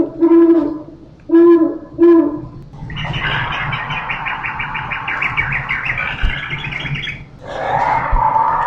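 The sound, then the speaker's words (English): An owl gives three short, evenly spaced hoots, followed by a long burst of harsh, chattering bird calls and one final squawk, played from an interactive wildlife display at Mission Trails Regional Park. “Let's go in now and listen to some of the interactive displays where you can hear wildlife of the region, such as coyotes, mountain lions, owls, hawks, eagles, and much more.”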